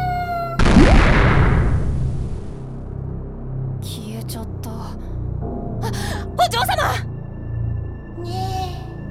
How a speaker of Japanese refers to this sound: 猫。どうしたのこの子。 にゃー。